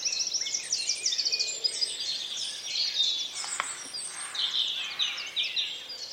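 A dense chorus of birds sings continuously, many overlapping high chirps and trills layered together at moderate loudness, with no voices present.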